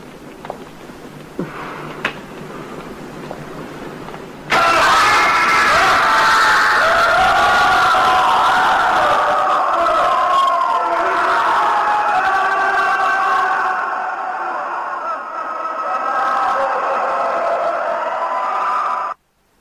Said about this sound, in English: So here is the clip from Barren Blood. With a little imagination, you should be able to envision the tortures and hear the screams that echoed through here.